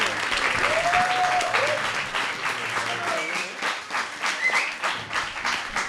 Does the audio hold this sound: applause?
yes